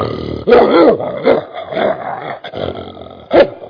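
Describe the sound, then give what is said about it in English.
A man's voice imitates a dog, letting out a string of loud, rough barks and growly yelps, several in quick succession with a final sharp bark. “I like to bark like a dog. I like to go.”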